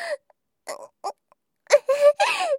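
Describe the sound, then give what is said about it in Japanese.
A voice imitates farting with a string of short, squeaky, buzzing bursts: a few brief puffs, then three longer, louder blasts in quick succession, with no other sounds around them. “ほら、次のおならがもう出ちゃいますよ。”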